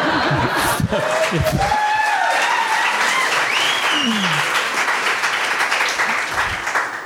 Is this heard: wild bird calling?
no